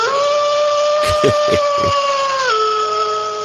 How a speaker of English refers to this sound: Lone Wolf. We got this. We used this Lone Wolf howl for the first time in 2011.